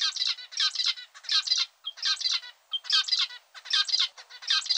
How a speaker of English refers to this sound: Much more interesting for us female zebra finches is how well a male can sing. Just listen to this guy. Doesn't he sound beautiful?